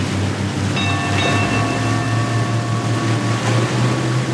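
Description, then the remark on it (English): A tugboat engine drones steadily as the boat pulls out of port, a low rumbling hum with faint whining tones above it, holding an even loudness throughout with no voices. “And pulling out of port.”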